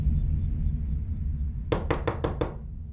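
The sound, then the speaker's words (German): Five quick, evenly spaced knocks on the wooden door of an alpine mountain hut at night in June 2006, distinct, over a low steady background rumble; no one speaks. “In der Nacht vom 25. auf den 26. Juni 2006 klopft es bei Doris auf der Almhütte an der Tür.”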